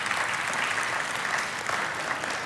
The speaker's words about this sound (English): Some of the oldest of you started clapping first, and I think that's really good. I think it's really good.